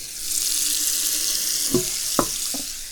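Steady rush of hot tap water running into a metal pan at a sink, a pan just used to boil water on the stove, with a few clunks of the pan shifting near the end. Fairly loud, no talking.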